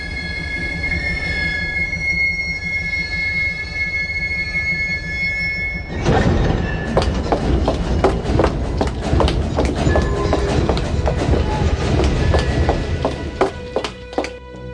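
A Tokyo subway train running on rails, starting with a sustained high metallic wheel squeal, then a loud rumble of rolling cars with irregular clacking over the track joints.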